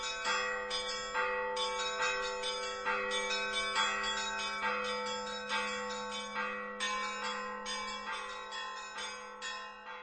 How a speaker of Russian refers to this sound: Колокола Сретенского монастыря не представляли ничего особого. Хорошие московские колокола, какие висели на десятках московских колоколен.